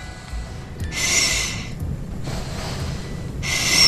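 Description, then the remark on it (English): A six-year-old girl's audible breathing at the Royal Children's Hospital repeats in slow, noisy breaths about once every second or so, each a soft rushing hiss, with no talking. “That's her breathing.”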